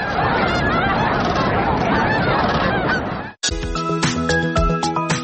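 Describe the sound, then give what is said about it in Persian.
A large flock of cranes calls at once, a dense, loud chorus of overlapping trumpeting cries, then cuts abruptly to a steadier, tonal, music-like sound. “هر سال آنها جشنواره تورنه ها را برای دوستداران پرنده ها و عکاسان تشکیل میکنند.”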